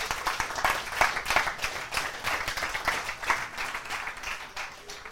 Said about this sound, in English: Okay, give the girls a round of applause.